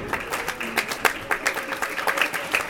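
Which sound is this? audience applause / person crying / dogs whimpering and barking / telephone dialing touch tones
audience applause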